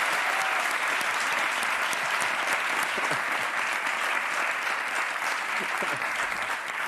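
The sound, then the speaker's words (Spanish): Sustained applause from an audience, a dense steady patter of many hands clapping at an even loudness for the full seven seconds, with no voices standing out. “Claro, porque no te has ido ya con el aplauso.”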